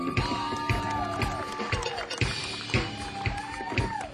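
A crowd applauds with scattered, uneven claps while cheers and high whoops or whistles rise above the noise, fairly loud and steady for a few seconds.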